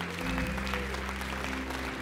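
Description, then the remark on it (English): Steady, sustained audience applause fills the whole two seconds, a dense wash of many hands clapping at an even, fairly loud level, with no one speaking over it. “I mean, listen to the applause.”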